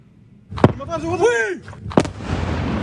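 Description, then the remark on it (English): Two sharp, heavy explosion blasts over Israel from an Iranian drone and missile attack, about a second and a half apart, with a rising and falling cry from a voice between them and a rumbling wash of noise lingering after the second. “Video captures the scene over Israel after Iran launched hundreds of enemy drones and missiles at the Jewish state.”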